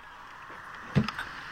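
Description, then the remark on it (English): A brief wet splash of vomit leaving a woman's mouth, one soft burst followed by a couple of smaller spatters, heard alone over a low steady hiss. “That little splash was puke coming out of her mouth.”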